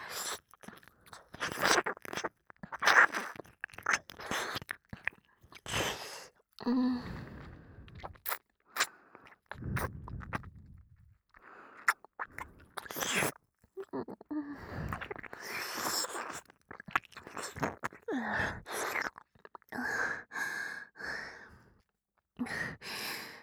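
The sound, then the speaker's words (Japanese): Wet tongue licks and smacking mouth sounds flick across the ear in an irregular, steady stream as the tongue tip tickles the entrance of the ear, mixed with soft breathy sighs, with no talking. “お耳の入り口は舌先でこちょこちょってくすぐるみたいに。”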